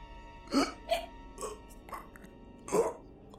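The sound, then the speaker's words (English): A disembodied head mounted on a bedpost in a bedroom makes a wet, repulsive gurgling as it gasps for breath. The choked gasps come in about five throaty bursts at uneven intervals, the first and last strongest, over a low murmuring background. No speech. “After coming to this realization, I heard a repulsive gurgling sound.”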